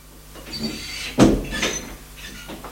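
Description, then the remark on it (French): A bedroom door opens with a sharp latch click and a soft thud, followed by a faint squeaky creak, otherwise quiet. “Il ouvre la porte de la chambre.”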